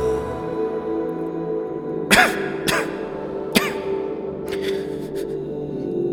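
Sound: coughing and throat clearing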